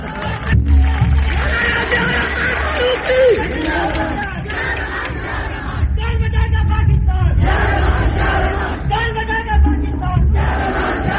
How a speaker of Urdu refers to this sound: تم یہ نعرے لگاتے ہو